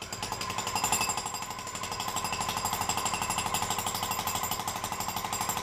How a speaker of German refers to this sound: Solche Geräusche holen einen gerne mal um 6 Uhr morgens aus dem Bett. Motorrad? Es wäre der Presslufthammer gewesen.